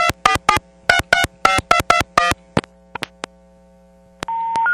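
A quick run of about ten touch-tone dialing beeps, dialing a call to another town, in short, even bursts over a low hum, followed by a few sharp clicks and then a steady tone that holds to the end.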